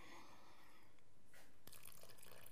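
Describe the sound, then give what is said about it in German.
Water being poured into a bowl for focaccia dough, following a basic recipe: a quiet, steady trickle with soft splashing and a brief sharper splash partway through. No one speaks. “So, jetzt bei Grundrezept steht auch geschrieben, muss Wasser geben.”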